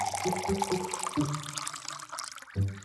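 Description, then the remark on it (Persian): Water pours steadily into a glass for a few seconds, a continuous splashing trickle with rising pitch as it fills, moderately loud. “یه لیوان آب میدی به هم؟ یه دخترم اینم یه لیوان آب.”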